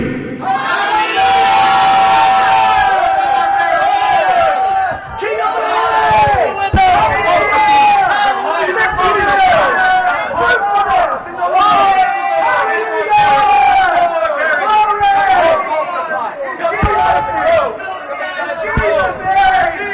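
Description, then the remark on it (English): An audience shouts together loudly and continuously after a count of three, many voices overlapping in a sustained roar of cries and yells that fills the whole space without pause. “If you're ready to be fruitful, then let's do it together. I'm going to count. I'm shouting with you today, beloved.”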